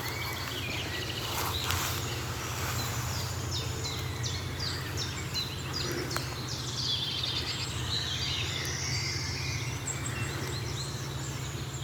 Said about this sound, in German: Während hinten ganz entfernt der Waldlaubsänger zu hören ist, die Meisen schimpfen. Buchfink hinter uns ist entspannt, also müssen die vorne rechts sein. Ich schätze mal, dass die Meisen die sehen.